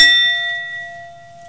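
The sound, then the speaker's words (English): A single chime is struck hard during a chime activity with children, who focus on the sound until it fades. It gives a bright metallic attack followed by a long, steady ringing tone that slowly fades, with no talking. “So we do that chime time activity with the kids as a way to tune them into their inner experience, and they're all used to it and they enjoy it.”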